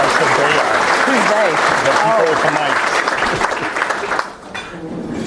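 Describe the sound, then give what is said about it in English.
Steady, loud audience applause at a morning event for the heads of the transit agencies RTA, CTA, Metra and PACE, with a few voices talking over it, then the clapping thins out and fades near the end. “So they have a lot to talk about, so let's give them a round of applause and get started.”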